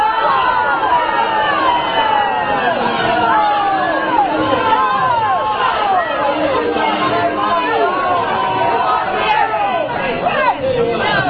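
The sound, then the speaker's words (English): A loud, agitated crowd in South Carolina reacts to Congressman Bob Inglis with overlapping shouts and jeering voices, a continuous dense roar of babble with rising and falling cries throughout. “Wow, they sound cranky.”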